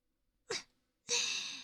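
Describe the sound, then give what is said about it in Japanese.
Two breathy puffs of air blown into the ear to clear away remaining fine debris: a short soft one, then after a pause a longer, stronger airy rush that fades slowly. No speech. “まだ細かいのが残ってましたので、私の吐息冷たかったですか？”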